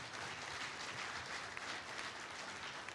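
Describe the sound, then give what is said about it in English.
Sustained applause from an audience for the transcribers in Colorado, a dense, even patter of many hands clapping at steady loudness throughout, with no voices standing out. “that's a tough job, you can imagine, and I think they did a wonderful job, so I want to give them a round of applause remotely.”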